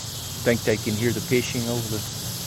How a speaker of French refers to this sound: I didn't know the cicadas would be so loud. Je savais pas que les cigales allaient chanter si fort. Hein. C'est difficile d'entendre les oiseaux hein, avec ces cigales.